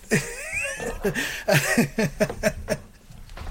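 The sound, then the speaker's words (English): A cat, Mr. Jinx, yowls and wails repeatedly in uneven bursts, its pitch bending up and down with each cry, with no talking over it. “Jinx back to the cat sanctuary as soon as I get there.”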